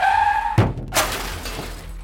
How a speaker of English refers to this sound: Even the Jaguar's racing quality brakes failed to stop the little buggy in time to avoid hitting the shadowy figure which appeared in the road out the thinnest of air.